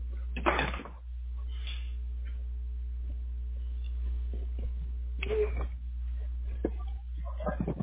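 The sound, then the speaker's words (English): A door opens and, a few seconds later, closes as a person walks out of the house, each a short clattering burst over a steady low electrical hum, with faint, muffled voice sounds and small knocks in between. “Sorry, I'm walking out of the house.”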